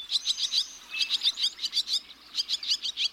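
Barn swallows twitter in quick, bright chirps, bursts of rapid high notes tumbling over one another with brief pauses. The calls are steady, with no voices present.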